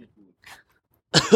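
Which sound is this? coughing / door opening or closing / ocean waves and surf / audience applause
coughing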